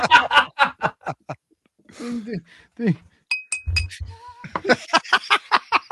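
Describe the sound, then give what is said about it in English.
A quick run of sharp, hollow knocks from a woodblock being struck in place of a missing bell, about eight in a row, followed later by another fast burst of knocks, with laughter and a voice in between. “Fucking woodblock. I don't know where my bell is.”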